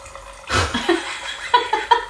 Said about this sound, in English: Yeah, so this is... I've just used a Corvin. So this is a system where a surgical needle goes through the cork of the wine. There's a tiny little canister of argon gas.